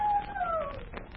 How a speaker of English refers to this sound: Yes, I hear it. It's a howling dog. Well, it adds atmosphere, doesn't it? I say it does. It also adds goose pimples. That howling dog seems to come from over near that lone pine. I thought dogs only howled at the moon.